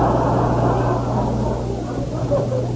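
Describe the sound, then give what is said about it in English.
A car turns into a driveway and parks, its engine a loud, steady low rumble with a droning hum that eases slightly toward the end. No one speaks. “He parks his car.”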